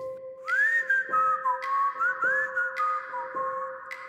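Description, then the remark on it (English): Someone whistles a lilting, old-fashioned song in the middle of the night, the clear pure notes gliding up and down in a continuous tune over a faint steady hum, with no talking. “And I'm laying there, I'm looking at the ceiling, and I can hear somebody whistling a song. It was an old-timey whistle, like a...”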